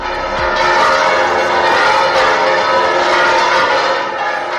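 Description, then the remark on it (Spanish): The bells of the cathedral in Córdoba ring out together in a loud, continuous peal at the news that Pope Francis had declared a nun from Villanueva de Córdoba venerable; their overlapping tones form a dense, sustained wash of sound for the whole stretch, with no voices. “Así sonaban las campanas de la catedral al conocerse la noticia de que el Papa Francisco ha declarado esta mañana a la religiosa de Villanueva de Córdoba, Juanita, venerable”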